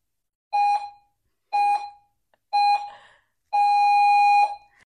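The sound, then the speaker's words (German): Three short electronic beeps at a steady pace, followed by one long sustained beep, loud, with no voices or other sounds around them, the pattern of a countdown timer finishing to start a debate. “Der Countdown läuft. Yes. Es wird gleich piepsen, dann geht's los.”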